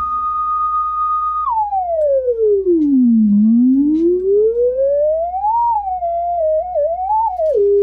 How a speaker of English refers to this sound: This is an Ico audio generator that my dad built when I was a kid. Hmm. And it's a tube machine. It's huge. I'll send you a picture of it. And all it does is just make this beautiful sine wave or square wave.